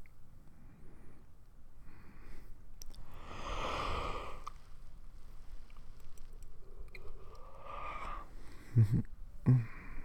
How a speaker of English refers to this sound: So, I want you to get in a comfortable position for me. I'm going to start by just taking a few deep breaths.